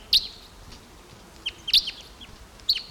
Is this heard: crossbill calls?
yes